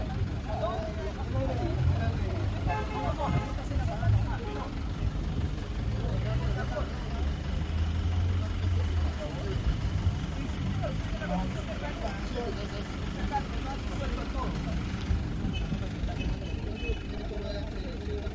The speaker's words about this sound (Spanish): La señora Luz Salgado fue ayer a Plaza B a hacer sus compras, dejó el carro donde no debía y se lo llevó la grúa.